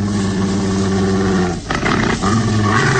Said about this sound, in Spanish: Escucha más claramente aquel gruñido amenazante. Aún tiene valor para acercarse más a los matorrales, llamando al enorme mastín que supone está escondido ahí.